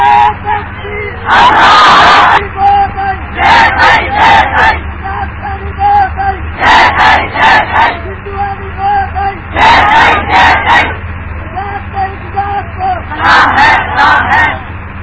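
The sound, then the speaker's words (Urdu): A loud crowd chants a slogan in tribute to the martyr Sajjad in repeated rhythmic bursts, roughly every three seconds, voices shouting together in unison with a low hum underneath between the chants. “تھوڑا اور اس کا نعرہ لگائیں, کٹوچ نہ سن لے کہیں.”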